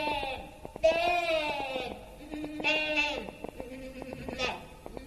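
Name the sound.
sheep bleating loudly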